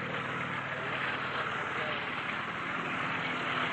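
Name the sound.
army helicopter landing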